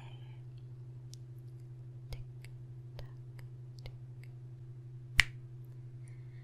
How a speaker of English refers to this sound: When I click my fingers, you will be back to being the loser that I tease and make fun of every day.